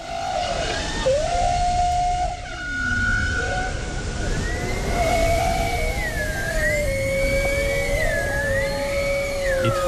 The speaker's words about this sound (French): Il s'agit d'une baleine, figurez-vous. Alors, pas n'importe quelle baleine, non. Une baleine de Svalbard, 16 mètres en moyenne, 75 à 100 tonnes. Sacré animal, ces cétacés du Groenland sont non seulement capables de chanter